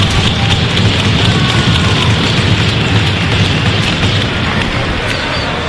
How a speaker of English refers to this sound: He's been a part of the athletic communications staff for about 4 years and is graduating this week. How about a nice round of applause for Cameron as we wish him well?